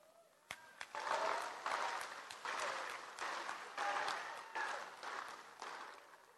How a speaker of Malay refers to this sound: Tapi alhamdulillah, Menteri Pelajaran nampak dapat banyak tepukan.